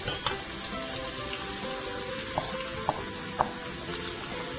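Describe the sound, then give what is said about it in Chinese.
Meat pan-frying in a wok, being lightly browned on both sides, with a steady sizzle throughout, broken by a few sharp clicks like a utensil tapping the pan. No one speaks. “好，那我们注意一下锅子里面的这个肉哈，也不要煎得太熟，我们只要把它呢稍微两边煎黄就好了哈。”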